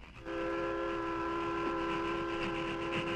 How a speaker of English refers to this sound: Train nearly reached top of slope.